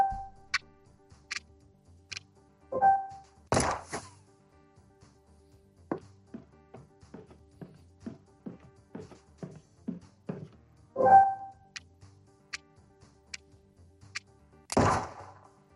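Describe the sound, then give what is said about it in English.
A steady run of about ten evenly spaced footsteps thuds in a video game played on a device by tilting and tapping, with faint high ticks and a few louder bursts before and after. Nobody speaks. “Now just listen for the footsteps.”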